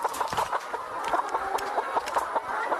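A crowd of chickens on a poultry farm in Delta State with about 3,000 birds clucks continuously, many overlapping calls forming a busy, steady chatter with no talking.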